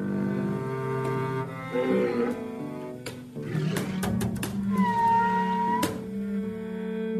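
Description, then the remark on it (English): Deep, rumbling walrus grunts drone continuously, broken by a burst of sharp knocking clicks, while a steady, slightly rising whistle sounds for a couple of seconds near the end. No one speaks. “Walruses have a huge vocabulary of sounds. They grunt, they whistle, they can sound like a steam train almost, and then they can use their flippers to make percussive noises.”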